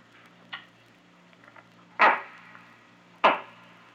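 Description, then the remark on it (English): A buck's answering call: two loud, sharp, woody knocks about a second apart, like an axe biting into a tree, preceded by a fainter one, with no talking. “Sometimes you think of someone chopping a tree, sticking right inside a tree.”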